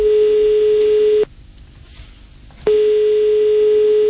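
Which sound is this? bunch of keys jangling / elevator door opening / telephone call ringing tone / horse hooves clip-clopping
telephone call ringing tone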